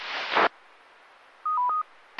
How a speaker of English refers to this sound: Sorry, I got a phone call at the same time.